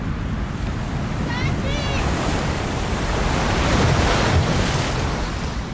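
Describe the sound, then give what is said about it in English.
Ocean surf from the last scene of the film Roma, where Cleo goes into the sea to rescue drowning children: loud, steady roar of waves churning continuously with a hissing wash and deep rumble, swelling slightly toward the end; faint high-pitched calls flicker briefly early on. “De hecho, cuando ella se metió al mar sin saber nadar, arriesgando su vida.”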